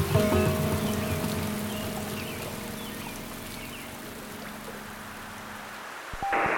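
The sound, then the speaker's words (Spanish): Steady rain, falling after several days of rain, comes down in a continuous, even hiss with no voices, while a faint low hum runs underneath before the sound shifts abruptly near the end. “Ya van varios días lloviendo y el río no se ha crecido.”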